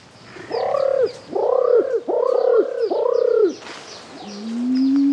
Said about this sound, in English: And then there's the Christmas Island imperial pigeon. And when people hear that imperial pigeon, they swear that it's a human making silly noises. They're quite magnificently ridiculous.